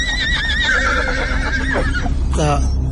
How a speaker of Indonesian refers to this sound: dan suara kereta kuda tadi terasa makin dekat. Dan ternyata benar, dalam hitungan menit aku bisa melihat kereta kuda melintas di depanku.